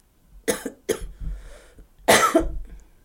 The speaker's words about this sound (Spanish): A ver, tose.